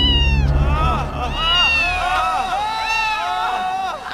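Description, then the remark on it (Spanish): Several cats, a mother cat and her young, meow loudly, their drawn-out, rising and falling cries overlapping almost without pause for a few seconds, over a low background rumble. “Mas estando en esta brillante función de baile y cerveza, guitarra y canción, la gata y sus gatos saltan el umbral.”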